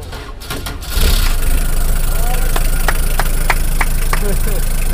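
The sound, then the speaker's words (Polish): A car engine, push-started with help from truck drivers, catches about a second in and keeps running steadily, a loud, rumbling idle with a rhythmic ticking clatter over the drone. “Po małym wysiłku, wspólnym pchaniu i dzięki pomocy polskich kierowców ciężarówek nasz wehikuł znów odżył.”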